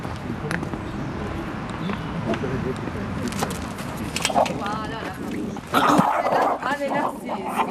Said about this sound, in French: Là, vous allez voir plus loin, il y a un chien qui aboie.